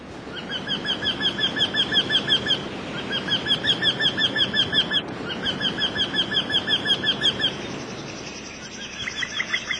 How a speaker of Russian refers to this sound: В Тригорском парке много старых дуплистых деревьев. Видимо, в одном поселилась вертишейка, родственница дятлов. Ее призывный крик я слышал неподалеку от скамьи, где, по преданию, Онегин объяснился с Татьяной Лариной.